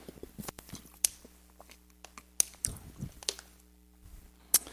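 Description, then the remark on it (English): A person sips water, with soft wet slurps, swallowing and small mouth clicks, punctuated by a few sharp ticks. It is quiet overall, with no talking. “Water's good stuff.”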